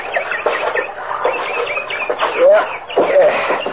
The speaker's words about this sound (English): Hey, listen to that bird. Sounds like San Diego on a bright June night.